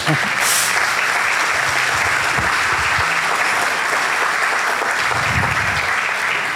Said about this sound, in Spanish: Ahora sí, aplaude.